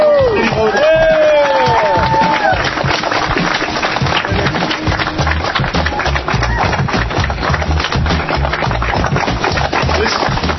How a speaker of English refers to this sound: Applause, folks, is for all of us. This is for all of us.